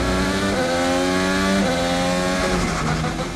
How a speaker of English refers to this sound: In a Formula One or any road race, you're going to hear the car shifting up through the gears and down through the gears a lot more often.